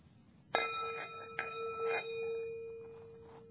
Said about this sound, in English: So a lot of this stuff is just going round and round again, like Pavlov's dogs. You ring the bell and people just bow.